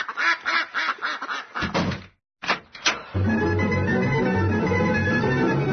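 Geese honking: a quick run of nasal, rhythmic honks, a brief silence, then a couple more calls before a steady, loud chorus of overlapping honking carries on to the end.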